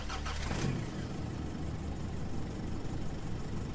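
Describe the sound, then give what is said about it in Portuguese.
A car engine catches with a sharp burst, then holds a steady, loud rumbling roar as the driver shifts into gear and accelerates, the car speeding onto the road with dirt and gravel flying behind. No voices. “Apenas engatei a marcha e acelerei.”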